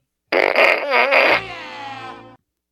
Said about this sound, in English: And if anybody deserves a fart gun, it's our sister